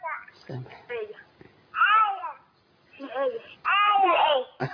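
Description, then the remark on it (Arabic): A small child calling in on a phone call babbles in short bursts of high, sing-song vocal sounds with brief pauses between them, moderately loud, with no clear words. “ايوه في حد عمل مداخله معانا طفل صغير.”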